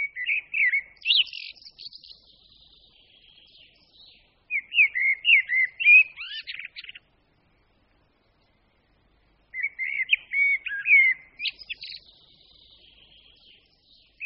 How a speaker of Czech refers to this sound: Zpěv kosa můžeme slyšet od brzkého jara až do léta. Pravidelně začínají kosy se zpěvem v únoru, ale mírné poslední zimy přispívají k tomu, že můžeme kosa slyšet ojediněle po celou zimu.